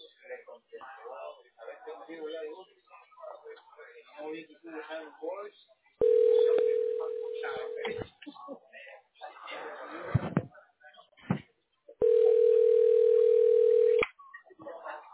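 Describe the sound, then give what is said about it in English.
A phone ringing tone sounds twice, each a steady, fairly loud buzz lasting about two seconds with a pause between, while a man talks before and between the rings. “How do I answer your fucking phone, dude?”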